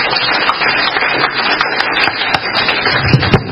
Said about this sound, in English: Give yourself a round of applause for the chip challenge.